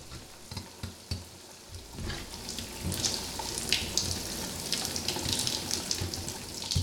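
Running shower water hisses steadily, starting with a few soft knocks and splashes before a fuller, continuous spray sets in. No one speaks.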